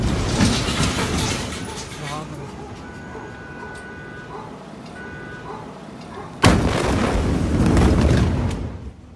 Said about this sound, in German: Am gestrigen späten Nachmittag zuerst eine kleinere Explosion, dann eine zweite, gewaltig große.